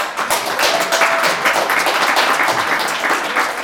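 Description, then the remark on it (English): A crowd applauds the band steadily, a dense wash of many hands clapping at a loud, even level with no pauses and no one speaking over it. “Let's give a warm applause to ….”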